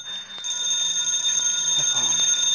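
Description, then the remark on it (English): A telephone rings with a continuous, shrill, high-pitched trill that starts abruptly after a brief quiet moment and keeps going at steady, loud volume, with no voices. “The phone.”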